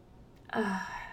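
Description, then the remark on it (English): A single audible breath, a soft sigh-like exhale that starts abruptly and fades over most of a second, heard alone with no talking. “Just please keep breathing audible for me so that I have the feeling you are here with me.”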